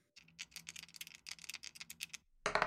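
Dice rattle and click in quick succession for a couple of seconds, ending in a louder clattering burst as they tumble across a table, rolled for a game. No voices.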